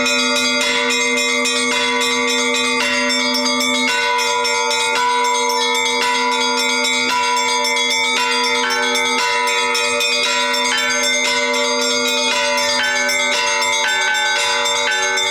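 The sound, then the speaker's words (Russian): Church bells ring out in a dense, continuous peal, several bells of different pitches overlapping in a steady rhythm with long shimmering resonance, loud, with no voices. “Традиция богослужебного звона пришла к нам вместе с традицией, собственно, самого богослужения из Византии.”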